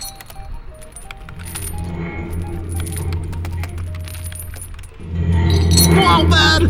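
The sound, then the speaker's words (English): Truck tire chains rattle and clink in irregular bursts of bright metallic jangling over a steady low rumble that swells louder toward the end. “But where did you get those heckin' chains, bud?”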